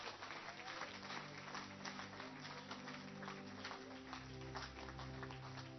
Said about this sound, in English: A clap offering for the Lamb.